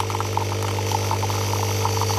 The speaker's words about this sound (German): Das ist die Kaffeemaschine, die wir im Camper dabei hatten. Ah! Unser Lebenselixier.